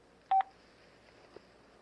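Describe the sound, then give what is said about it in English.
A quick, loud phone keypad button tone, a short double-pulsed beep, sounds once as a name is typed in for a new contact, then gives way to faint background hiss. No one speaks. “Now it's telling me to put my name in, so I'm going to do that with the keypad or with the keyboard.”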